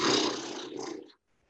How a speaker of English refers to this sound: Actually, the horse lips.